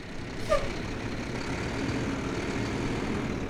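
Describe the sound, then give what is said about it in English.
A large water truck, hauling up to 1,700 gallons of water to refill wildlife water catchments in Arizona, rumbles steadily, with a short, sharp air-brake hiss and squeal near the start before the low idle carries on alone. “Although some of the water catchment systems are self-sustaining, others require refills using large water trucks, hauling up to 1,700 gallons of water.”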